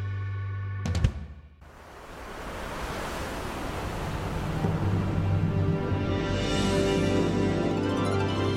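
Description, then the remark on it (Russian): Wind rushes steadily through a window, a broad hollow whoosh that builds slowly and swells louder toward the end, after a brief knock near the start. No one speaks. “Ветер в окно.”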